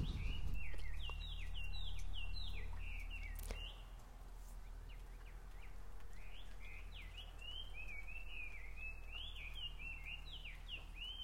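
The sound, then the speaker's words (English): A distant local bird on an island calls repeatedly in quick, high chirping sweeps that continue throughout, faint against a low steady background hum, with no one speaking. “I was hoping you can hear that, the bird in the distance.”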